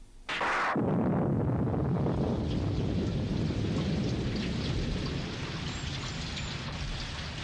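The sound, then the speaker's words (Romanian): Heavy rain pours down steadily and loudly after a sharp burst at the start, a dense continuous roar with low rumbling underneath, like a downpour with possible thunder. “Ce ploaie! Nu putem să ieșim din casă.”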